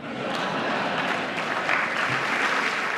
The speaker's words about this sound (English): Broke a record for the applause and the length of the standing ovation.